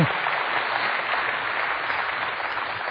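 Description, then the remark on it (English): An audience claps steadily for three seconds, a dense, even patter of many hands at a constant moderate loudness, with no voices standing out. “And I said, I'm not asking you to clap for me.”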